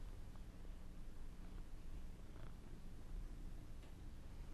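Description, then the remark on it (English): A cat purrs steadily, a continuous low rumbling drone that holds level throughout with no voices or other sounds. “And cat.”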